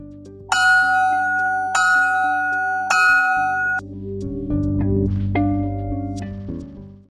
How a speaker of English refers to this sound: You better get to class before the bell rings.